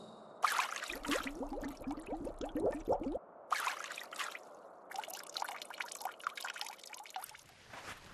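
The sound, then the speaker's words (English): Water pours and gurgles into a water skin, with splashy bursts and a bubbling stretch of rising glugs as it fills, continuing in uneven surges with no voices. “She started to make something like a basin around it and filled her water skin with water.”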